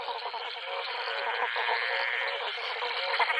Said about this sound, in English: A little bit inland in Queensland, we're driving through very dry country, and I heard this incredible chorus of frogs in a pond beside the railway line, and I thought, wow, this is good.